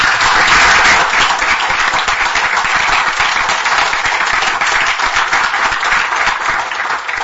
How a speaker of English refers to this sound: I'd like to invite all of you to give another round of applause to David for his presentation and his work.